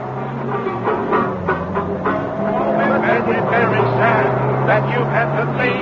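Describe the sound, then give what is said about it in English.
A worn-out old jalopy's engine hums steadily at a low pitch, growing slightly louder and rougher after about two seconds as it pulls away, with muffled voice-like sounds over it. “It was at that moment that Mrs. Peel heard the car taking off.”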